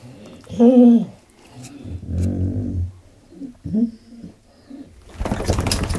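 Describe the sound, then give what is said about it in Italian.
A dog vocalizes while its ear is massaged: a short wavering moan, then a low rumbling groan and another brief moan, followed by a burst of rustling noise at the end. “E quando li massaggi l'orecchio, questa è la tipica vocalizzazione che il cane fa.”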